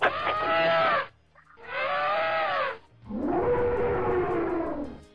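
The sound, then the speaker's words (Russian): Three loud, brassy elephant trumpeting blasts, each about a second long, separated by brief pauses; the last is lower and rougher, with no talking. “догадался, кто это? Слон, кажется. Да, слон. Совершенно верно”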